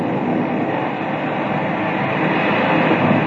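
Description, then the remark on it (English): A geyser erupting, its water spouting at least 100 feet straight up: a loud, steady roar of rushing, spouting water that holds at full strength for the whole stretch, broad and hissing, with no voices over it. “Jim, that water's spouting at least 100 feet, straight up.”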